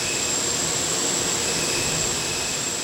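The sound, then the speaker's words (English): Loud, steady roar of Lockheed C-130 Hercules transport plane engines idling on the tarmac at Dulles International Airport late at night, a continuous rushing drone with a high, sustained turbine whine running through it. No voices are heard. “looked up at the hulking form of the Lockheed C-130 transport plane that was to carry her and a select group of colleagues into the heart of war.”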